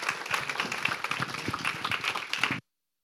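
An audience applauds in a steady, dense patter of many hands clapping at once as a pastor comes up to share God's word, holding an even loudness for about two and a half seconds before cutting off abruptly. No voices are heard.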